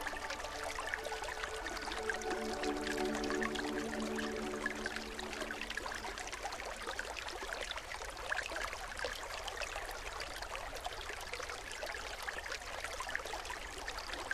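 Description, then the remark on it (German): A babbling brook flows steadily, water breaking over a stone in sunshine, a continuous bright splashing and gurgling, even in level throughout, with a faint low tonal hum early on and no voices. “Ich lausche dem Plätschern des Baches.”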